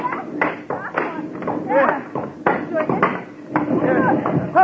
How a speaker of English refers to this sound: Everybody start breaking up that wood. We're going to put everything we can lay our hands on into that boiler.